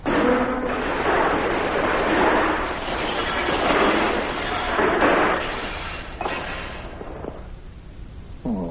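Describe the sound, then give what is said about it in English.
A loud, drawn-out crash as a soup bowl is knocked over and a bed breaks: several seconds of clattering, crunching noise with clinking impacts, easing off toward the end, with no talking. “You've knocked over my bowl of soup and you've spilled it all over me and the bed. And you broke the bed to boot.”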